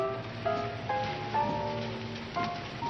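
Steady rain falls at night in a city, hissing and pattering throughout, while a few soft sustained musical notes enter at a slow, regular pace over the wash of falling water. No voices are heard.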